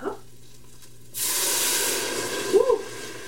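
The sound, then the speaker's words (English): A sudden loud hiss and sizzle erupts as water is added to a hot pan while making bouillon stock. A broad steady rush of steam carries on for a couple of seconds, with a brief bubbling flare near the end. “That whoosh, right?”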